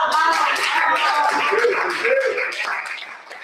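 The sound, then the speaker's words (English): A crowd claps steadily for a few seconds, a dense patter of hands mixed with cheering voices, holding loud throughout before easing off slightly at the end. “Well, clap it up for them.”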